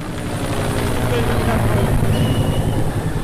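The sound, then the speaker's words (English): A helicopter roars low overhead in Petit-Goave, Haiti, weeks after the earthquake, its rotor beating in a rapid, steady thump under a loud engine whine that fills the whole stretch, with faint indistinct voices underneath. “these helicopters were flying really low overhead the whole time she was there.”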